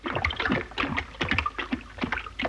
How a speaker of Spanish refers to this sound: Aparece agua.